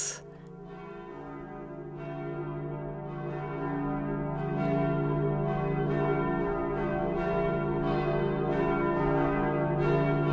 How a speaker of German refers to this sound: Das sind die Neujahrsglocken, die Glocken aus St. Nikolai in Bad Wilsnack in Brandenburg.